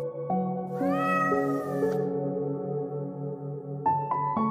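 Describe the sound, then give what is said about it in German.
A large, long-haired black cat with reddish-brown patches meows continuously in a long, drawn-out wail with rising and falling pitch, loud, ending in a few shorter yowls; no one speaks. “Denn immer wieder hörst du das Miauen einer Katze.”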